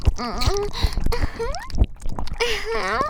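A voice imitates yawning, with drawn-out, pitch-sliding vocal sounds broken by wet mouth clicks and breathy gasps, fairly loud.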